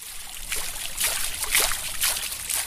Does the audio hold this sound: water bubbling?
yes